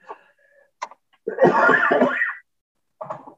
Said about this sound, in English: How about extracting my coughing out of this recording?